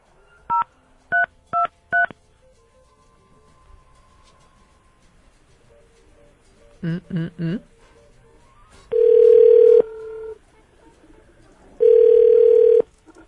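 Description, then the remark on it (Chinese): A mobile phone is dialed to call the caller's wife, who has just finished work, with a quick run of bright keypad beeps, then a second burst of tones, followed by two long steady ringback tones separated by a pause as the call rings out. “她现在应该刚下班，打手机。”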